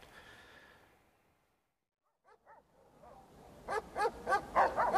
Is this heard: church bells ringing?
no